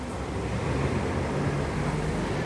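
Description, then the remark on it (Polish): A large bus rumbles with a steady low engine drone and broad road noise as it turns and moves along, holding an even loudness throughout. No one speaks. “o autobus skręca, to chyba chwilę musimy zaczekać.”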